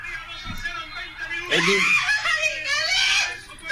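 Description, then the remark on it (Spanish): A small child in a video screams in loud, high-pitched, sustained bursts lasting a couple of seconds, following a brief quieter stretch with a faint low thump. “El niño chiquito gritando.”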